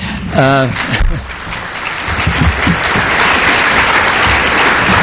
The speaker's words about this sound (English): Please keep your applause short. Time is of the essence. Thank you anyway.